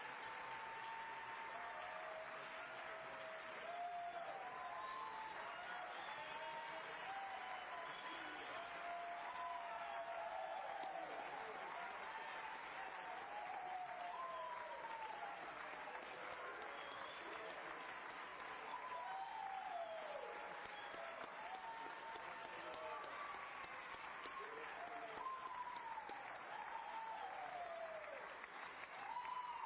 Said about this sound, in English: Let's give them a wonderful round of applause this morning.